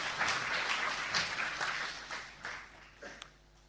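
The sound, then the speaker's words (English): An audience breaks into applause for Jonah, thanking him for his help, a dense wash of many hands clapping at once that holds steady, then thins out and tapers away over a few seconds. “Shall we give Jonah a big round of applause for all his help?”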